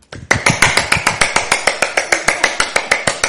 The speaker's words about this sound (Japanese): ニコニコしていながら、拍手を大きいしながら、1分以上くらいこれをしよう。このぐらい。